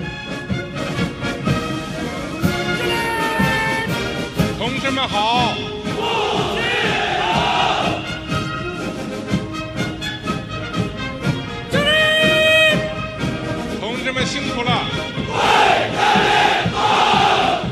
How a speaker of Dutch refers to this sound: Die dan op een gegeven moment iets brult in de richting van de soldaten. En die brullen dan allemaal terug. En dan storten bijna huizen in, zou je zeggen. Want dat is zo'n enorm kabaal.